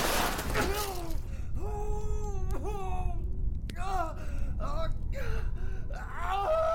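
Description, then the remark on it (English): A man wails and groans in pain from inside a collapsed tent after a fall of about 16 feet, a series of strained, rising and falling cries with sharp gasps between them, loud over a low rumbling background. “Rob winced as he heard Earl's wail of pain emanate from somewhere inside the cloth.”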